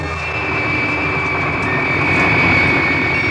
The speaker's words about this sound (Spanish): El pequeño jet inicia el despegue. A velocidad vertiginosa se desliza por la pista de la isla, flanqueada por vegetación exuberante, y en pocos segundos inicia el vuelo.